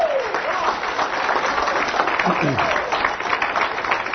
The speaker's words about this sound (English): Give them a round of applause for helping out, would you?